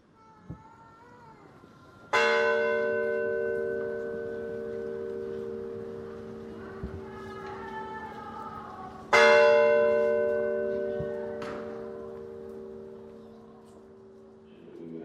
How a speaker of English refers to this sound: And the only sounds that really you're going to get other than the procession or the tolling bell of Santa Marta. It's really distinctive, really mournful bell. It just sort of fills the whole space.